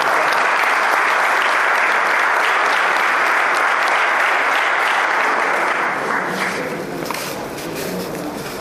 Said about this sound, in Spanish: Recibimos entonces con un fuerte aplauso al doctor.